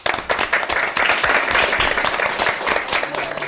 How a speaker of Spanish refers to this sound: Hoy la tenemos aquí con nosotros y también nos va a acompañar con una bonita canción. Os dejo con ella. Un aplauso.